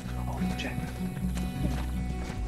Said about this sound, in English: A pony chases a horse in a corral.